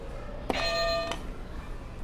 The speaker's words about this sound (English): So can you go ahead and hit another buzzer?